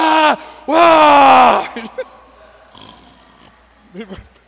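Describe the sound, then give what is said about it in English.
A voice loudly imitates a person snoring while sitting in a front church pew, with two drawn-out, harmonic snorts, a short one then a longer one, followed by quieter breathy sounds and small vocal noises. “You know, there was one person who used to sit in the front pew several, about 15, 16 years ago, and would snore.”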